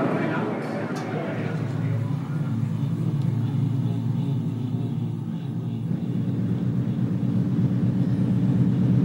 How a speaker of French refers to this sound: Là on est assis sur le pont arrière du bateau, devant un magnifique soleil couchant. Il fait doux. Il y a le bruit de la mer et le bruit du paquebot.